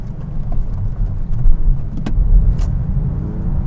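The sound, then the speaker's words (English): A car engine roars loudly and steadily for a few seconds during a power slide on a wet road with puddles, a deep throaty drone with a couple of brief sharp clicks and no voices. “Nice power slide. I'm telling you, this car is so nice to control.”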